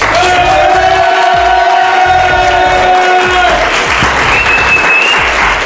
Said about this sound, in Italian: E allora, in diretta qui dagli studi di Radio Dinamo, vi dico che siete stati fantastici! Fatemi un applauso!